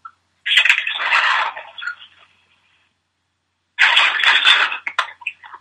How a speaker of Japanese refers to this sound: え？扉開い た。 雨や。 雨降ってますね。わかりにくいけど。 大雨。 いや、雨の前のあの、扉開く音がびっくりしましたよ。なんか、暴動みたいな音しました。一瞬、扉開く音が暴動みたいな音してましたよ。